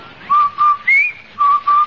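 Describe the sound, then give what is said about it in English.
The Rinso White laundry soap advertising whistle: a short whistled jingle of five clear, bright notes, two steady tones, a higher rising note, then two steady tones again, loud with no voices. “That's the Rinso White whistle.”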